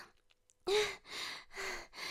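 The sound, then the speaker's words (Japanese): After a moment of silence, three loud, heavy panting breaths come in quick succession, breathy, each with a slight voiced edge. “ちょっとごめんね、息がいっぱいいっちゃったからハァハァしちゃっててごめんね。”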